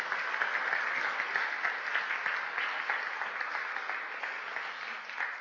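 A crowd claps steadily, a dense and continuous wash of many hands at fairly even loudness for several seconds, with no voices standing out.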